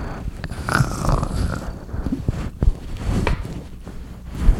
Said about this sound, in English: Stop rubbing. She's just rubbing her head all over the microphone. Where's the purring? The purring. You had it for a second there.